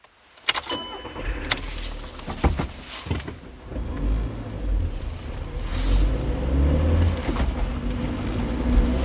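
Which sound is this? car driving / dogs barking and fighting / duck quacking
car driving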